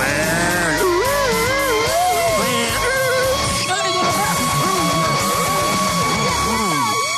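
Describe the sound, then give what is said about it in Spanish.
A police patrol car sound effect for Radio Activa's "patrulla radioactiva" roaming the city streets: wavering siren tones rise and fall repeatedly over a dense, noisy background of shouting and crowd clamor, loud throughout. “Efecto de patrulla.”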